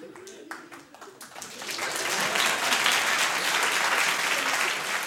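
Audience applause for a performer who has not yet begun starts as a few scattered individual claps, then swells after a couple of seconds into a dense, steady roar of clapping that holds loud to the end.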